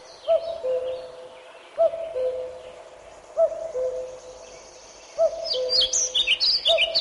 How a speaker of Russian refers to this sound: Перелетая, кукушка кочует с места на место в лесу. Она поедает гусениц, личинок разных насекомых, кричит свою знаменитую песенку «Ку-ку, ку-ку».